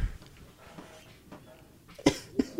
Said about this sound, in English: I'm trying not to cough into the mic.